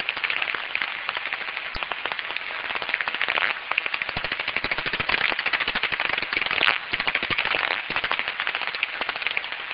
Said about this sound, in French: Bon, par exemple ici, on va écouter les cris d'un murène d'aubenton, une toute petite chauve-souris qui chasse les insectes volants souvent à la surface des étangs.